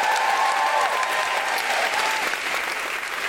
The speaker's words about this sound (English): Can I get you to give a huge, huge round of applause for everyone here at the Malt House, who's been amazing.